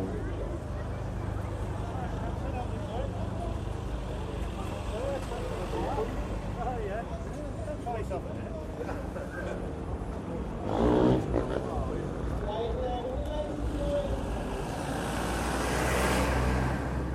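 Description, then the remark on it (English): Busy outdoor ambience at the Santa Pod drag racing venue during a break in the racing: a steady wash of crowd chatter over rumbling engines, with a brief louder burst midway and a swell of engine noise near the end. “So we've got a break in the racing. So we're just going to have a walkabout. I'll get some of the ambience of Santa Pod.”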